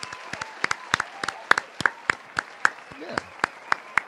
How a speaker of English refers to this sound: Let me give her a round of applause. We'll give her a round of applause.